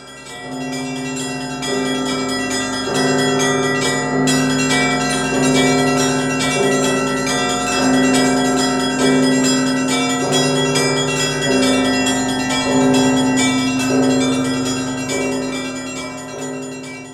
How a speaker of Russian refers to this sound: Крестный ход сопровождается особым пасхальным колокольным звоном.